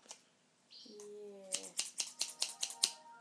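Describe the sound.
A quick run of about eight sharp, crisp scissor snips through stiff plastic vacuum packaging, fairly loud, coming in a steady rhythm after a brief low murmur of voice.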